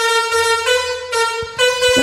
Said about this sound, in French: Mais c'est dur les klaxons, hein. Bah oui. C'est pas facile, hein.